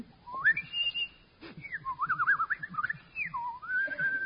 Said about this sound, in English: Try whistling it once more.